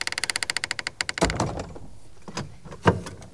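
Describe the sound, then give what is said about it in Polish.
A heavy palace door creaks open in a quick run of ratcheting, clicking groans, followed by a dull thud and a few softer knocks, fairly loud with no voices. “Uchylmy zatem jeszcze raz drzwi pałacowe i zajrzyjmy do jego wnętrza.”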